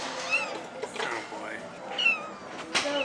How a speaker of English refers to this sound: Do you hear her? Is she purring? No, she's mewing.